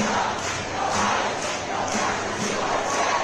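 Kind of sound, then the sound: crowd, protest crowd chanting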